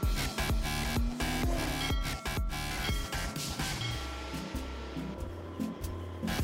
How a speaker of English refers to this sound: Then we went and we drove go-karts. Take a look at that. Or take a listen